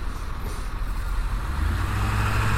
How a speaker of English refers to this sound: The bus stopped at the railroad track. That's a law here. Actually, I think it is everywhere.